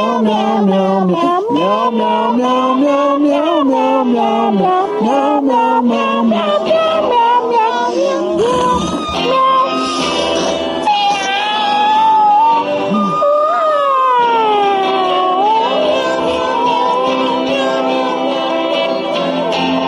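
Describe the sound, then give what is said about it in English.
People imitate cat meows in long, wavering, overlapping cries that rise and fall in pitch, loud, continuing without pause throughout. “We're going to meow one more time.”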